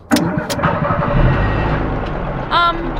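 A car engine cranks with a couple of sharp clicks, then catches into a steady low rumble that rises briefly toward the end, fairly loud.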